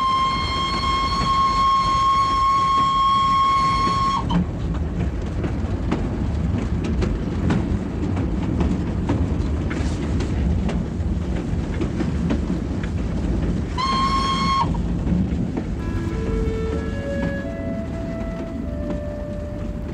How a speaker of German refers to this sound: Der Express von Bukarest nach Konstanza donnerte durch die Nacht, vorbei an balearischen Dörfern, an Maisfeldern und Schafweiden, über die große Donaubrücke bei Chalavoda und weiter in die platte Steppenlandschaft der Dobrudscha.